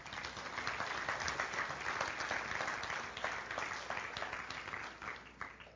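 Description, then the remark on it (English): An audience claps steadily for several seconds for a group of boys as they take their seats, a dense crackle of many hands that stays fairly loud before gradually thinning and tapering off near the end. “You can have a seat. Clap them up.”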